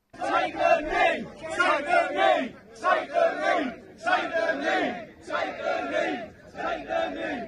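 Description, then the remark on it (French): A crowd of English anti-immigration protesters shouting together in loud, chant-like bursts, about six rhythmic surges of massed voices with short breaks between them, strong and sustained throughout. “Je veux qu'on écoute ces cris des manifestants anglais.”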